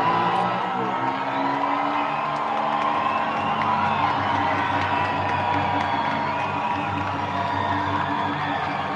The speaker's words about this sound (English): Crowd starts to get roaring.